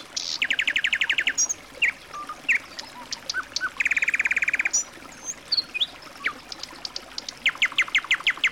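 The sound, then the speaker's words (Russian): A nightingale sings alone at night under moonlight in rich varied phrases: rapid repeated trills, sharp whistles and chirps, with brief pauses between bursts over a soft background hiss. “Но через минуту свет луны и пение соловья усыпили детей и лошадей.”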